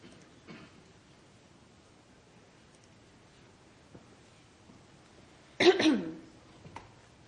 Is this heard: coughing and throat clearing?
yes